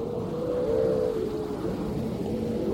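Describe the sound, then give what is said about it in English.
Grey seals howl in a long, mournful, wavering call that rises and falls steadily over a low rumble of wind and water, continuous throughout. Harems of grey seals on the beach of a bay off the island of Mingalay in late September, pupping season, heard from a vessel anchored in the bay. “Suddenly we heard the howling of seals.”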